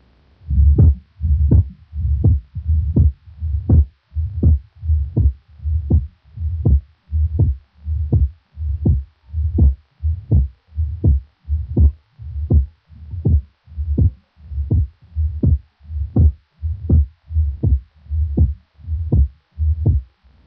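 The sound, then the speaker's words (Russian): A steady heartbeat heard through a stethoscope over the pulmonary artery of a patient with mitral heart disease, with a loud, accented, split second heart sound recurring at a regular pace of roughly 75 beats per minute, clear with no talking. “Прослушайте акцент и расщепление второго тона на легочной артерии у другого больного с митральным пороком сердца”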